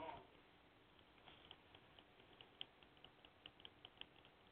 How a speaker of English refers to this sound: That's you typing?